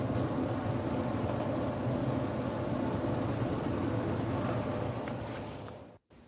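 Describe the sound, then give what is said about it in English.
An air conditioner runs with a steady, low mechanical hum and whoosh, then winds down near the end and cuts off, leaving a brief silence. No one speaks. “Well, the air conditioner turned off.”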